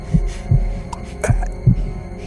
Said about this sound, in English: But for many minutes, his heart beat on with a muffled sound. This, however, didn't vex me. It would not be heard through the wall.